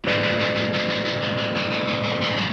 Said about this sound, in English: An old black and white film of a steam train arriving in Pennsylvania.